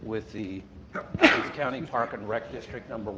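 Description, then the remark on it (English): A single sharp sneeze bursts out in the middle of a man's ongoing presentation at a city council meeting in Othello, brief and fairly loud, with the talking continuing right around it. “Bless you.”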